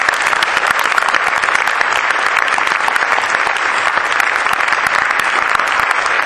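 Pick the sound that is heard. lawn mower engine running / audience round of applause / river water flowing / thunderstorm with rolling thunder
audience round of applause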